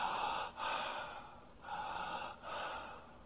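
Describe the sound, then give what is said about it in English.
A person imitates the connected breathing of someone dying in the last 24 to 48 hours of life, drawing long, raspy breaths that run into one another with only brief dips between them, about four in a row, with no talking. “What did they do in the last 24 to 48 hours? They started to breathe like this.”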